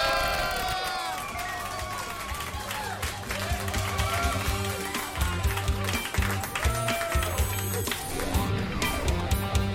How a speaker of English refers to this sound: My ears, there's so much clapping.